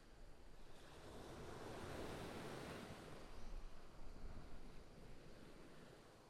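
Steady ocean surf washes onto a beach, a broad continuous roar that swells midway with a louder breaking wave, mixed with some wind rumble and no voices.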